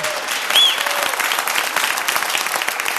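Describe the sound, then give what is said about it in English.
An audience claps steadily, a dense, even wash of many hands with no pauses, and a brief high whistle rising above it near the start. The crowd is at the Bayfield Pavilion on the shores of Lake Superior in Bayfield, Wisconsin, at the kickoff of Bayfield in Bloom, during a live broadcast. “Yeah, you can clap.”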